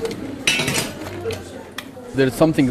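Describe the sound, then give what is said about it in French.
Ambience at the Lost, a hotel bar, with dishes and cutlery clinking in short bright bursts, over a low steady murmur, and a few indistinct voices rising toward the end. “Je suis maintenant au Lost, c'est un bar-hôtel qui était toujours plein.”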